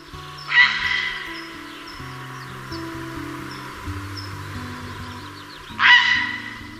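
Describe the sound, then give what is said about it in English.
Two loud, harsh heron calls, one near the start and one near the end, each a brief rasping squawk, with soft steady music playing underneath throughout. “Listen out for their calls like this.”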